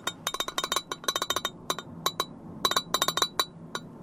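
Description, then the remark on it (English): Rapid, irregular clinking of the glass lid on a rectangular yellow vintage Pyrex dish holding Brussels sprouts with bacon and chestnuts, rattling in a car exiting I-5 at 164th Street, bright chinks in quick clusters over a low rumbling background, moderately loud. “Well, that's the sound of Brussels sprouts cooked in bacon grease with bacon and chestnuts, held in a rectangular yellow vintage Pyrex dish with a glass lid.”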